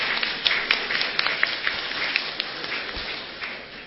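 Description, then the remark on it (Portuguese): A crowd claps steadily for a few seconds in honour of a former city councillor, a dense, even patter of many hands with scattered sharper claps standing out, moderately loud, with no talking over it. “Quero uma salva de palmas para o vereador, por 3 mandatos, e que representou muito bem essa região, o ex-vereador e vereador por 3 mandatos,”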